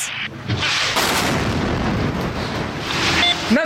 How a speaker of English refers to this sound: They were alerted to the first explosion, went out, and then while they were there, they saw a plane circling back and then this second missile strike.